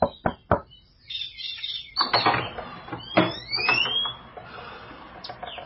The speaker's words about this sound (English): Early the next morning, there's a rap on the front door.